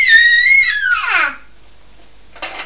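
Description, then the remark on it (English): A young child screaming while singing the nursery rhyme 'Row Row Around the Boat': a loud, high-pitched, drawn-out scream that slides downward in pitch and trails off, followed by a moment of quiet and a short, breathy burst near the end. “Oh, he's singing Row Row Around the Boat and screaming on it.”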